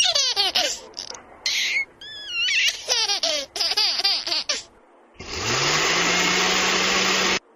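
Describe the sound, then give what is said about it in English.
A baby giggles and squeals in bursts for several seconds, then a loud blender whirs on abruptly and runs steadily, drowning everything else out. “I heard a baby, and what was that? A blender.”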